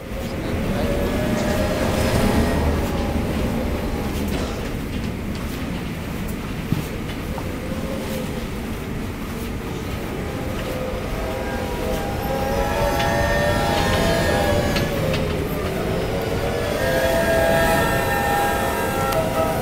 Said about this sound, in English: As the eye of the storm passed, it's like, here, I don't know. I guess you want to know if wind sound like a train or something.